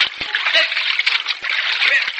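water splashing

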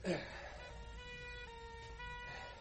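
ambulance siren

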